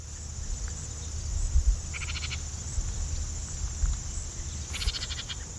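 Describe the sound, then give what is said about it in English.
A house wren calls in two short, bubbly, high-pitched bursts a few seconds apart, set against a steady thin insect-like whine and a low background rumble. “We've got some bird calls here. First, the house wren.”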